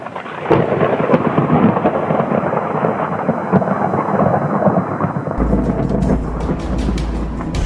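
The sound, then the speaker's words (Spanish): Steady heavy rain pours down with a dense hiss, joined by rumbling thunder that grows deeper and louder toward the end. No voices are heard. “Decepcionado, afuera de la lluvia, con una ráfaga de pensamientos cada vez más fuertes, más oscuros, sus lágrimas se mezclaban con la lluvia, se sentía destrozado.”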